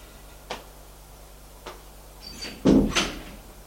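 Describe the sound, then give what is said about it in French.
An apartment door is handled with two soft clicks, then a louder thud as it shuts, followed by a sharper latch knock, as someone leaves the apartment. No voices, just a low background hum. “Et il sort de l'appartement.”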